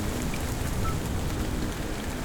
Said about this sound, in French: Est-ce bien la fin de l'orage? Ou le début d'une nuit agitée?